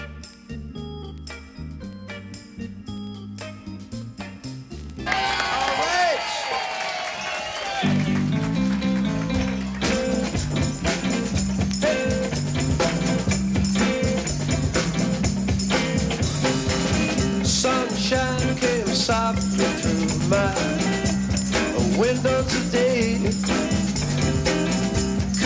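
A live jazz group plays a medley, recorded live on April 18 at Donkin's Inn, Marina Del Rey, California, opening with a sparse, quieter passage before the full band surges in and keeps up a loud, steady groove with bright, busy horns and drums.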